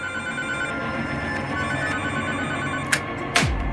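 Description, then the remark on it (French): A telephone rings at night, one of many repeated calls from the same caller: a steady, continuous bell-like trill with bright metallic overtones. Two sharp clicks break in near the end, and no one speaks. “Il a dû appeler 15 fois cette nuit-là.”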